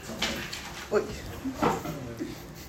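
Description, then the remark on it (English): Loose papers flying in the air flap and rustle in a few quick, papery bursts, moderately loud, with soft background noise between them. “Is that a bird? No, it was papers flying.”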